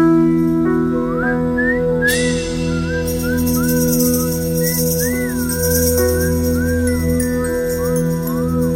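A man whistles a wandering, lilting tune over a steady low droning tone, while a bright jingling of small bells joins in a couple of seconds later and keeps shimmering throughout.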